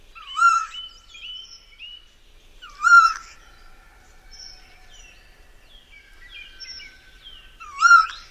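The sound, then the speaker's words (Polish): A Eurasian jay mimics a tawny owl, giving three loud, clear owl-like calls spaced a few seconds apart, with softer twittering notes between them and no other sounds. “Tu słyszymy sójkę naśladującą puszczyka.”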